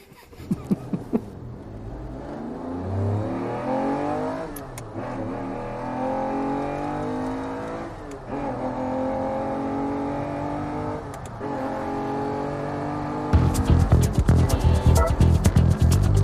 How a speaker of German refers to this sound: Ja, das ist super, das am Anfang Auto zu hören.